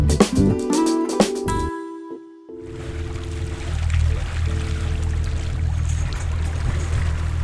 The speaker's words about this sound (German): Hört ihr das? Dieses Rauschen, das ist nicht irgendein Motor. Nein, das war das schöne Surren eines Hausboots.